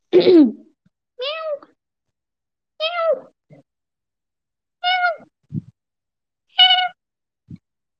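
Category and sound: animal, cat meowing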